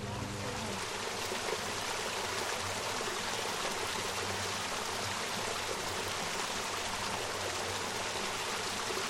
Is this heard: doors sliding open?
no